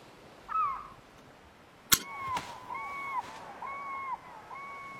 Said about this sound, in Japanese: 今の季節はカモメしかいないね。